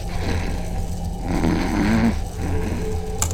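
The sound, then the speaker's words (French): Recording of a woman snoring: deep, rumbling snoring with a low, steady drone throughout. It swells into one loud, throaty, slightly tonal snore in the middle before easing back, and a brief sharp click comes near the end. “Mais pourquoi il a enregistré une vache dormante? C'est pas une vache, c'est ma femme.”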